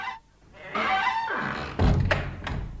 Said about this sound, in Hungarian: Csukjuk be az ajtót, jó?